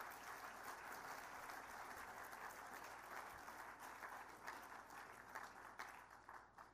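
Steady audience applause at an evening competition event during a presentation of flowers, many hands clapping in a dense, continuous patter at a fairly even loudness, with a few sharper individual claps standing out as it begins to thin toward the end.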